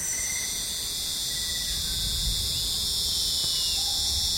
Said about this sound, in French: Ce que l'on n'entend pas, par contre, c'est que notre Lernaeca est une sorte d'athlète de course de fond. Tout en chantant, ce grillon tourne sur lui-même, puis saute, puis chante en tournant, puis effectue un nouveau bond.